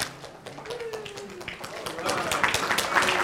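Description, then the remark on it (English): A crowd at the end of a Bible teaching on the Book of Revelation claps in a dense, irregular patter of sharp hand claps that grows louder and fuller toward the end, with a faint voice briefly audible underneath. “Well, this is a great way to end with applause.”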